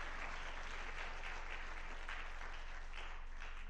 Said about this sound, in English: Welcome to this Christmas Eve. Good to be together with you all. What an incredible evening to worship God. Let's just give God a big round of applause. He's worthy of all of it.